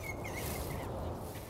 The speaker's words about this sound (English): The squirrels having a little wrestling. You can hear them squeaking at each other. They sound a little bit like birds.